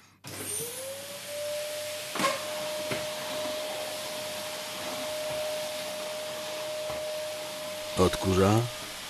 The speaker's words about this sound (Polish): Odkurza.